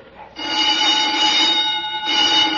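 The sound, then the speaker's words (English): An alarm suddenly starts blaring, a loud, steady, shrill ringing tone that holds continuously with a brief dip near the end. No voices are heard. “What's that? The old woman must have turned in an alarm.”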